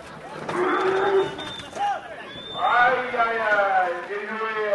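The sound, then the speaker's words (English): An angry Camargue cow lets out loud, drawn-out moos, one early and a longer one later, echoing in an open arena during a Toro Piscine (bull swimming pool) game, while youths in the ring shout and call, taunting it to chase them through a kiddie pool in the middle of the arena. “Several youths in the ring taunt the angry cow, trying to get it to chase them through a kiddie pool laid out in the middle of the arena.”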